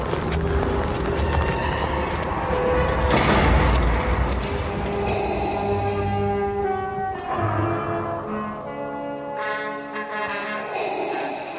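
A heavy mechanical door grinds and slides open with a deep rumbling swell, followed by resonant, humming tones as it settles. It is fairly loud, with no talking.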